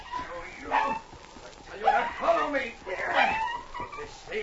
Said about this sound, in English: The early darkness was falling when suddenly, from behind a thicket on the trail, they heard a dog yelping. Dad, there's a dog. Hear him? Ho, ho! Ho, chief! It sounds as if somebody's beating him.